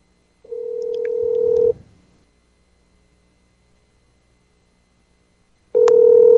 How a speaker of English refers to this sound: And now the cell phone is just ringing.